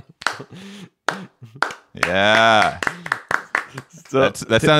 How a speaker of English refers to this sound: We get a slow clap going here.